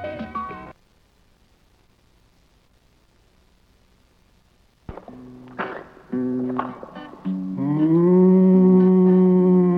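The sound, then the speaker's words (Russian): A cow moos: a short low call at the start, a pause of near silence, then several broken moos building into one long, loud, drawn-out bellow. “отчего печаль присуща коровам, отчего лежит она, в поле не скачет, отчего мычит она, будто плачет”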